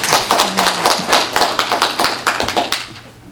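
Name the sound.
audience applause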